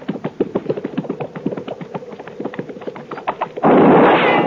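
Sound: gunshot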